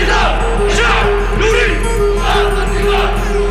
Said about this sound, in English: Now, crowds several times larger were demanding his downfall.